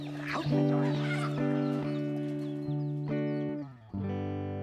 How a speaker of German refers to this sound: das sind nur ein paar Gänse in meinem Garten, okay? Kein Grund zur Panik.